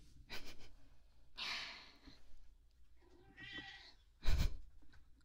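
A cat meows several times, the calls broken by snuffly breathing, with a sharp, loud burst near the end. No one speaks.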